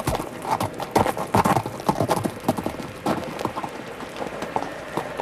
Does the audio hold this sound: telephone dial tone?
no